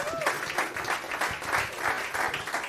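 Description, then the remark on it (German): An audience claps steadily, a dense wash of many hands with a bright, crackling texture that holds at an even loudness throughout, with no one speaking over it. “Da kann man nochmal einen extra Applaus da lassen, weil er die letzten zwei Jahre beim Loaded nie da war.”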